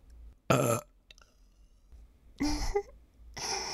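Three loud burps break the quiet at uneven intervals, each a short, rough, rumbling belch with no talking in between.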